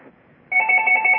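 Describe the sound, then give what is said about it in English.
A telephone starts ringing partway through, a steady electronic ring with two bright tones and a slight warble, fairly loud, after a moment of quiet background. “Oh, we spoke too soon. You got a phone? Should I answer it?”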